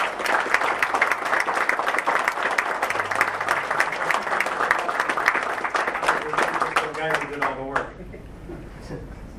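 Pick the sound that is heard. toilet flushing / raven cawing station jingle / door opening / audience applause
audience applause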